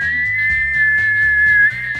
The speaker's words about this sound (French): Le sifflet de la cocotte minute.